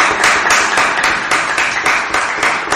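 Loud, steady applause from a crowd, a dense wash of many hands clapping with a faintly rhythmic pulse running through it, continuing without a break and with no voices.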